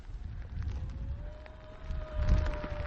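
Steady rain hisses and patters while wind rumbles low against the microphone, and a thin, steady electric motor whine from an e-bike being ridden runs underneath throughout, in rain and fog near a bus stop at 2,716 m altitude on the Nagano–Gifu prefecture border, Japan. No one speaks.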